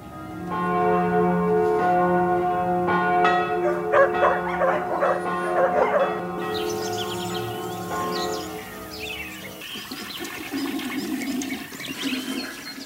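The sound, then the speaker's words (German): A church bell in a bell tower tolls with rich ringing overtones while dogs bark and yip; birds chirp in the background, and toward the end a softer watery, gurgling sound from a drain takes over. “Ich habe gehört, Hunde, dann noch ein Glockenturm, Vögel und ein Gulli.”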